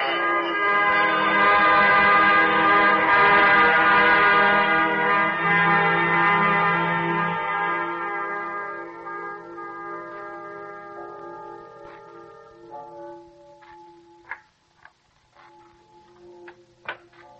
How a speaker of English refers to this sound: Tell me, what do the bells ring for? The dead.